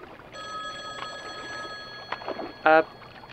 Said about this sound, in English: the payphone, that's here for some reason. It's ringing.